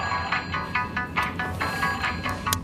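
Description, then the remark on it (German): A telephone rings with a rapid, pulsing electronic trill, repeated bursts in quick rhythm, clear, with no voices over it. “Alles beginnt an einem Freitagnachmittag mit einem Telefonklingeln.”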